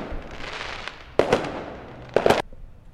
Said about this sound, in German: So, das Feuerwerk ist dann doch wieder vorbei. Wie schön.